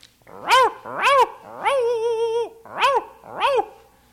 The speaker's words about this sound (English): We've all heard dogs.